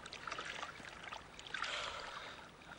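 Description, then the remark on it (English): Gentle waves lap and slosh against a small boat, a steady watery splashing that swells briefly louder midway before settling back, fairly quiet, with no voices. “It's just all this going up and down on the waves, I think.”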